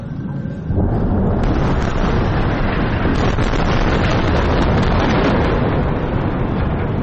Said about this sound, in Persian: صداهایی که در نوار غزه متوقف نمی شود، بمباران و انفجار، و پس از آن آژیر آمبولانس ها.